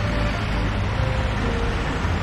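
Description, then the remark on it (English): A steady, deep engine rumble of two large trailer trucks driving down the road to an inn, loud and continuous throughout with no pauses and no voices. “He sees two large trailer trucks driving down the road to the inn.”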